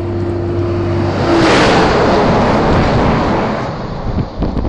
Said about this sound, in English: That was a road train.